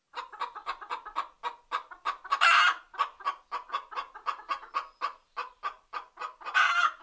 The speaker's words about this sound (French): Devant la ferme, il y a des poules.